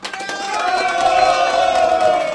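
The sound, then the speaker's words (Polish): A sound effect of a crowd cheering and applauding in a steady, loud burst, with whoops and shouting voices over a dense wash of clapping that holds for a couple of seconds. “Ach, brawa dla ciebie.”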